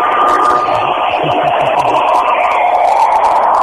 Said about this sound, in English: I'm over by the generator now. You can hear that generator roaring.